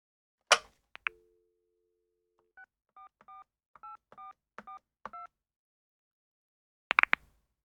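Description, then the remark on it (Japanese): A handset clicks, a steady dial tone hums briefly, then a quick series of about eight short two-tone keypad beeps plays, followed by another clatter of the handset. No one speaks. “電話してください。”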